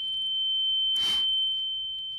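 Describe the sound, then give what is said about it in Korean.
A steady, piercing high-pitched tone rings continuously like tinnitus, with a brief burst of hissing noise swelling in the middle and a faint low rumble underneath. “머리가 아프고 귀가 울리기 시작했다.”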